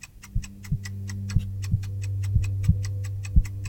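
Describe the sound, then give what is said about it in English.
A clock ticks steadily and quickly, with crisp, evenly spaced clicks. Deeper irregular thuds and a constant low hum run beneath it. No one speaks. “So, take a deep breath and listen closely. The gears are turning and the seconds are slipping away.”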